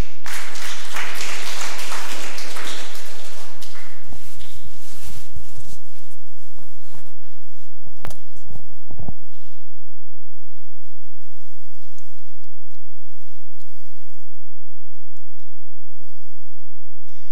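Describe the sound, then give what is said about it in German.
An audience bursts into dense applause that fades out over the first few seconds, followed by a few scattered thumps and shuffling noises in a quieter stretch. “Auch jetzt dürft ihr klatschen.”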